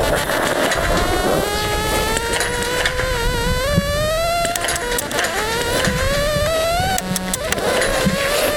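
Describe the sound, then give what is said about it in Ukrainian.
An acoustic aiming tone used by blind biathletes at a shooting range, heard through headphones: a continuous electronic tone with strong harmonics that glides steadily upward in pitch, wavering and shifting as it rises, loud and unbroken over a faint hiss for the whole stretch with no voices. “Для таких біатлоністів, як він, спеціально облаштований вогневий рубіж. Він орієнтується у навушниках ось по таких звуках.”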